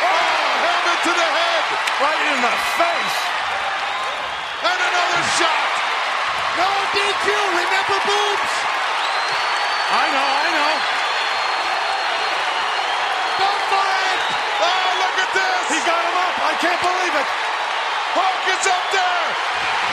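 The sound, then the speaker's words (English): A packed wrestling arena crowd roars loudly and continuously as wrestlers set up the Doomsday Device move, with sharp thuds from ring impacts cutting through the din at several points. “then the crowd erupt as they set up for the Doomsday Device.”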